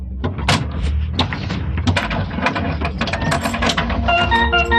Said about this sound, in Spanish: Después de cerrar la puerta con llave, avanza lentamente hacia el extremo de la oficina.